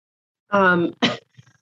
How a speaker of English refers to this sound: Sorry, I'm like having a coughing attack.